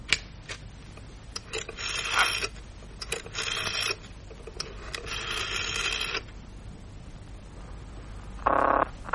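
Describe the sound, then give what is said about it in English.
A telephone ringing tone on a call to the County Constabulary sounds in repeated buzzing bursts with short pauses between them, fairly clear against a quiet background, then a brief higher tone near the end. No one speaks. “It's ringing.”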